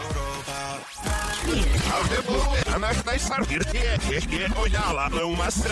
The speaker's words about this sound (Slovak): Ty koky, dosť ťažké celkom, ale je to úvodná znielka k relácii 3 prasiatka.